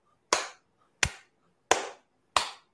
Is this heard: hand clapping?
yes